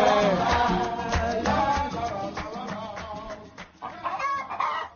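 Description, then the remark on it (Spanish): In a Spanish advert for Steel garden machines, a hen clucks repeatedly in short, busy bursts, fairly loud, with an uneven chattering rhythm and no talking. “Cualquiera podría venderte la gallina de los huevos de oro.”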